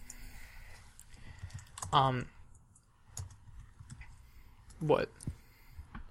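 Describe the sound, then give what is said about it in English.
Faint, scattered keyboard clicks tap away at an irregular pace, with a couple of brief muffled vocal sounds rising over the quiet typing. “I thought you were doing something because I heard you typing.”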